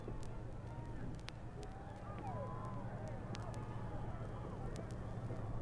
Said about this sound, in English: Again, the informal, disorganized cheering of the crowd, and now the president of the United States has come into sight of part of this crowd, and you hear the result.